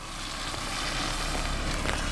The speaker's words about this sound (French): Vous avez entendu le bruit de la voiture? Ça c'est parce que j'habite près d'une route, une petite route